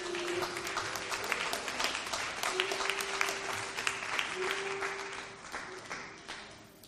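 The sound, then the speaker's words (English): An audience at a church service, standing, claps steadily in praise to God for several seconds, a dense wash of many hands, with a sustained tone running underneath and the applause thinning toward the end. “We can give God a hand clap of praise in this place.”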